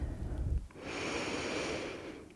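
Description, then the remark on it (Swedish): A long, deep breath drawn in through the nose during a guided breathing exercise, airy with a steady rushing hiss lasting nearly two seconds, preceded by a brief low rumble. No talking. “Ta ett djupare andetag in.”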